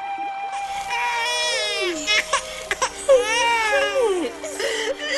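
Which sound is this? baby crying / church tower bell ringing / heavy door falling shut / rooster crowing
baby crying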